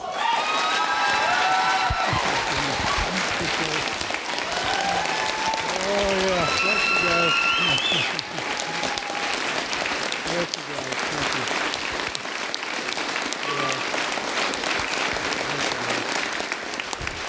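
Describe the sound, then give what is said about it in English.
A large crowd applauds loudly and steadily for a pastor, with shouts and whoops of cheering mixed in during the first half before it settles into continuous clapping. “So if you could please give a very, very large round of applause to my very good friend and a patriot, true patriot pastor,”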